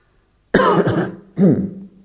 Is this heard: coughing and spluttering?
yes